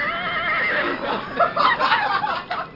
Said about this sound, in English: She likes ringtones that make horse noises.